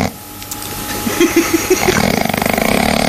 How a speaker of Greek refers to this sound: Το ροχαλιτό είναι η μελωδία των αγγέλων. Ακούστε τη μελωδία των αγγέλων.